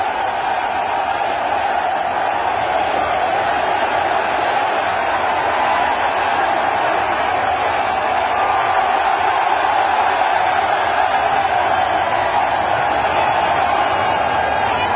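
A large stadium crowd at the Army-Navy football game roars and cheers in one unbroken wash of noise as President Donald Trump is announced and steps onto the football field, holding at a steady, loud level for the whole stretch with no single voice standing out.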